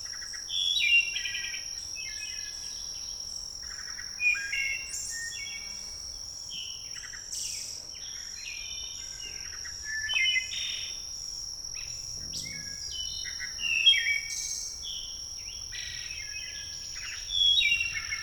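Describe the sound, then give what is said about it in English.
A wood thrush sings a series of fluty, ringing phrases separated by short pauses, set against a steady high drone of crickets or other insects; no one speaks. “And in the meantime, and before they head south for winter, there may be a wood thrush concert near you.”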